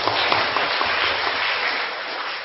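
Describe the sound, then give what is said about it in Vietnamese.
A crowd applauds steadily, dense clapping from many hands at a fairly loud level, holding constant before easing slightly at the end, a round of applause for the young participants of a five-day retreat. “Thế mà các con dám từ bỏ hết những cái thói quen đó, những sở thích đó để mà vào đây tu tập trong 5 ngày, thì các con chính là những người hồn cho một tràng pháo tay.”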